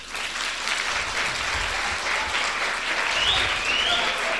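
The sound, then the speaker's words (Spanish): Loud, sustained applause from a young audience in a hall, greeting the radio listeners: a dense steady wash of clapping for several seconds with no speech, and a faint high whistle briefly rising over it near the end. “Pues a quienes me acompañan esta mañana aquí, les voy a pedir que saluden a la audiencia que nos está escuchando al otro lado de la radio con este fuerte aplauso.”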